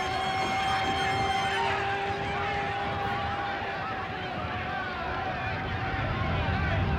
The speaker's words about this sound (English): The ambulance sirens you now hear in the background should be pure and non-wavering.